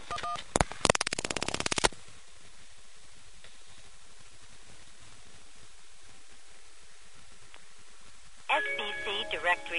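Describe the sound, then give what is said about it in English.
A short run of loud touch-tone beeps as 411 is dialed on a telephone that is not a coin phone, then a long stretch of quiet line hiss before a tonal, tinny phone-line sound comes in near the end. “Let's try a couple things to see what 411 does.”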